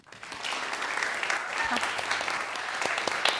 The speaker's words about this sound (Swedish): Välkomna. Visst kan de få en applåd.